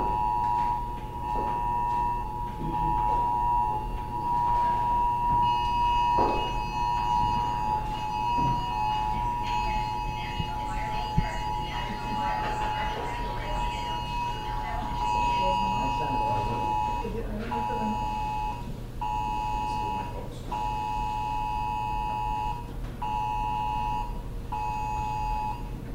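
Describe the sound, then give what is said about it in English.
A phone sounds a test of the National Wireless Emergency Alert System at 2:18 p.m., a harsh, high electronic two-tone drone blaring steadily and pulsing slightly for the whole stretch, with voices murmuring underneath. “And on the phone, this is a test of the National Wireless Emergency Alert System.”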